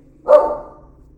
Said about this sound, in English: And some thunder just happened, and my dog just barked.